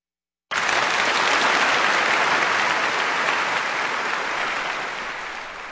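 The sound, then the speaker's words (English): A concert audience breaks into sustained applause for pianist Vyacheslav Richter after Beethoven's Piano Sonata No. 18 in E-flat major, The Hunt, a dense wash of clapping that starts abruptly, stays loud and steady, then fades slightly toward the end. No voices can be heard. “And that applause for pianist Vyacheslav Richter, with music of Beethoven, the 18th piano sonata in E-flat major, also known as The Hunt, written in 1802, here on Kansas Public Radio.”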